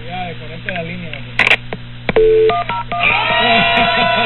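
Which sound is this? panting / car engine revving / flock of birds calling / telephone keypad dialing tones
telephone keypad dialing tones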